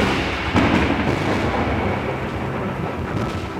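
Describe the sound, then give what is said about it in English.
A loud crack of thunder from a lightning strike during a thunderstorm bursts in and rolls into a dense, sustained rumbling roar that fills the whole moment, with no voices present. “But here I was, so I reached for the knob on the ninth door, and just as my hand gripped the brass doorknob, and I started to open the door, lightning struck.”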